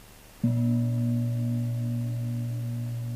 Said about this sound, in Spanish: Próximo sonido del gong dejaremos de contar y simplemente acompañaremos el proceso de toda la respiración.